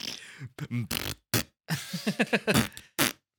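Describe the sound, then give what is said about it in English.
A voice imitates fart noises in place of a synth part in a song, in a series of short, buzzy, pitched bursts, sputtering up and down in a rough melodic rhythm, fairly loud. “And then instead of real synth, it's a fart noise.”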